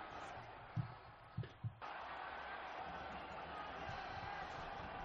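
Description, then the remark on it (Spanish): Steady, dense roar of the crowd, players and bench applauding at the football stadium in Cornellà during a minute of applause in memory of Diego Orejuela, former Espanyol player, with a few sharp low thumps near the start before the broad wash of clapping settles in. “Bueno, pues el minuto de silencio respetuoso también en Cornellá, minuto de aplausos que se ha acabado, que se está acabando en convertir precisamente con los jugadores, con toda la afición, también con todo el banquillo, el respeto para una leyenda”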